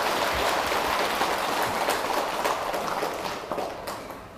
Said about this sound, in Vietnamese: Nếu mà các vị thấy hai điều vừa nêu là thật sự có ý nghĩa thì hãy dâng cho một tràng vỗ tay để cam kết làm.